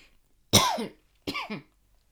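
Two loud coughs in quick succession, the first sharp and forceful, the second a bit softer with a slight double burst, followed by quiet.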